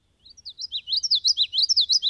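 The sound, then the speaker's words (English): A common yellowthroat, a bird with a black mask and bright yellow throat, sings its rolling witchety song, a quick run of bright, repeated chirpy phrases, clear, with no voices. “Listen for its witchety, witchety, witchety call.”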